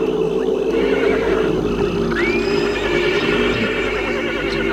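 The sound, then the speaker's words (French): A horse whinnies loudly as it rears up under its rider in marshland, a shrill, wavering call held over a steady rumbling background, with no voices present. “Tout à coup, dresse devant sa monture, ce qui fait renverser de port son cheval.”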